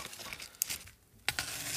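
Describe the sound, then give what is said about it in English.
Dry, papery crinkling and tearing as the skin is peeled off an onion before dicing it, with two sharp crackling bursts over a continuous rustle, no voices. “So, got to get the paper off, make sure everything looks good.”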